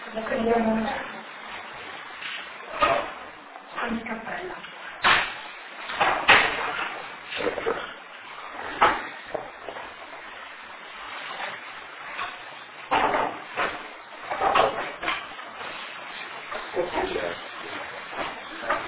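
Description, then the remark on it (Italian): A chair is fetched and shifted, giving a series of irregular clunks, knocks and scrapes over several seconds, with people talking faintly underneath. “No, ma ciao, bisogna prendere, ecco, una sedia sapete qui.”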